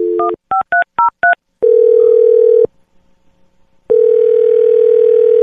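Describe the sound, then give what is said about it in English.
A phone number is punched in as a quick run of about six short two-tone keypad beeps, followed by two long, steady ringing tones separated by a pause of silence. No voices. A call is being placed on the show Brooke and Jeffrey in the Morning. “dial her phone number right now.”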